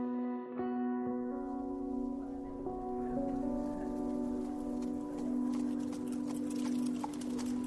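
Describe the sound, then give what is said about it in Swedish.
Horse hooves clip-clop at a steady pace as a farmer's horse-drawn cart is pulled along, arriving at a church from Yngsjö, the hoofbeats sharpening toward the end beneath a sustained, ringing bell-like hum. “bonden Per kommer åkande med häst och vagn från Yngsjö”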